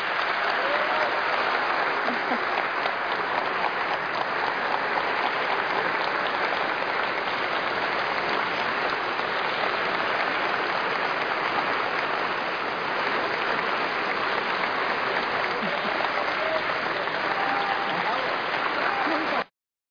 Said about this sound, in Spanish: Desde luego, fuerte, fuerte el aplauso para la doctora y maestra